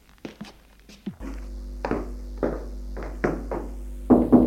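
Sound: knocking on a door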